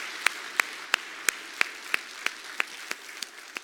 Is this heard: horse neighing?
no